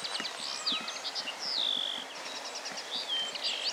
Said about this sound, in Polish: Natomiast stadko makolungów nade mną przeleciało. Takie miękkie, miękkie dźwięki. O, i nawet zaczęły śpiewać. Usiadły tu niedaleko.